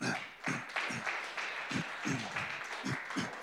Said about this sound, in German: Ja, ihr dürft wirklich klatschen, ja.